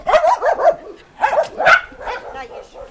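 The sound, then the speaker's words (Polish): A female dog barks and yips in a quick series of short, sharp bursts, fairly loud, with brief pauses between clusters of barks. “Nie mogę tak powiedzieć, że się zakochałam w psie, bo zakochać się przyjaźnie, o taką można powiedzieć.”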